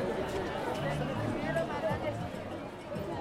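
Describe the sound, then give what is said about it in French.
A dense, tense street crowd that is hard to move through fills the scene with continuous overlapping chatter, many voices blending into a steady, loud babble with no single speaker standing out. “Nous nous extrayons donc de cette marée humaine étourdissante pour nous diriger vers notre maison.”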